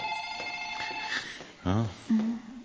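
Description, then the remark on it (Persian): A telephone on the other line rings with a steady electronic tone for about a second, then fades as voices speak briefly over the background. “اون یکی خطه. من گوشی برمیدارم.”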